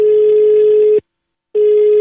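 A phone line ringing on an outgoing call from Florence to the mayor's office of Udine: a steady, loud electronic ringback tone sounds for about a second, stops for half a second, then starts again, with no voices.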